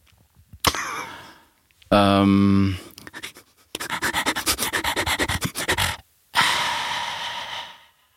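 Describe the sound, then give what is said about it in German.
A person imitates a dog that urgently needs to go out to relieve itself: a whiny, tonal whimper, rapid scratching-like rubbing noises, and a long breathy snuffling sound, fairly loud. “Wie wird ein Hund, dein Hund zum Beispiel machen, wenn er dringend mal das Bein heben muss, also wenn er raus muss mal schnell?”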